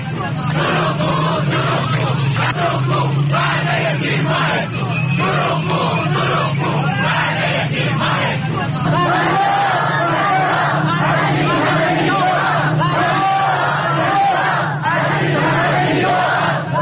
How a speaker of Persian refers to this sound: بازنشستگان در تجمعات خود برابر سازمان برنامه و بودجه شعارهایی چون فریاد فریاد از این همه بیداد و دروغگو دروغگو وعده تیر ماهت کو سر دادند.